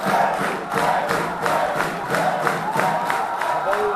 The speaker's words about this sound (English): Former Army Chief Benny Gantz enters his rally in Tel Aviv to cheers from the crowd.